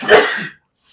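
A single loud sneeze bursts out with a sharp, breathy explosion, then fades quickly into near silence with only a faint hiss at the end.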